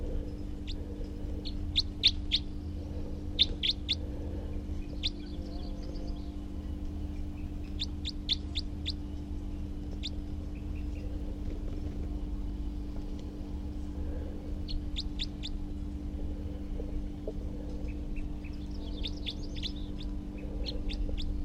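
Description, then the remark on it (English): A wild male bird calls in repeated clusters of quick, high, sharp chirps separated by short pauses, over a steady low hum of background noise. No one speaks. “And here's that wild male again, who was calling before, and I have good recordings of.”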